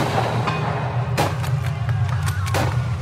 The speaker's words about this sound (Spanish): Desobedecido, Posse inició él mismo los disparos. Su tropa lo imitó y el sonido de los fusiles Mauser retumbó contra el local.